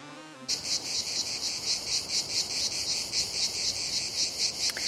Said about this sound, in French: Oui, alors je sais, c'est pas du tout de saison, Guive, les cigales. Bien, voilà, ça fait quand même du bien, puis ça plante au moins tout de suite le décor. Nous sommes dans le sud